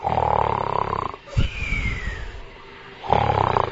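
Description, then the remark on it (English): An old boatman, sound asleep, snores loudly in two long, rasping breaths separated by a quieter pause with a soft thump and faint whistling tone, the second snore starting just before the end. “So she sent Lalita Sakhi and they went all around and they found there was one old boatman who was just sound asleep.”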